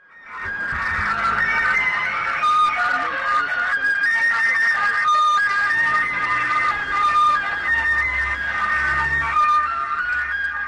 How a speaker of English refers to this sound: But Für Elise is actually only one of two main tunes that the gas trucks play. Do you want to hear the other one?